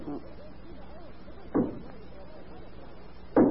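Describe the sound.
Two dull, solid knocks in a wall, sounding as if coming through the wall from the dining room, spaced about two seconds apart, with faint murmuring voices underneath in the quiet between them.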